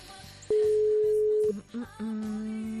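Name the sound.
telephone ringback tone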